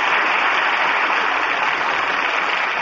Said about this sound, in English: That applause says it all.